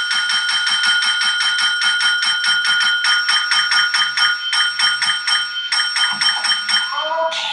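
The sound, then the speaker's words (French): A small hand bell, Hector Salamanca's bell through which he communicates, rings insistently, struck in a rapid, steady rhythm of bright metallic dings that carries on almost without pause, with a faint low murmur beneath. “Ça, c'est la cloche d'Hector Salamanca hein, qui ne communique que comme ça.”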